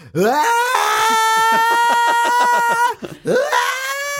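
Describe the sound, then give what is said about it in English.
A man's voice imitates the scream of a rock singer: a loud, strained held cry with a gravelly, pulsing wobble. It cuts off briefly, then rises into a second shorter scream, alone. “Oh, I really wish I could have nailed that scream because that made it sound like I was making fun of him.”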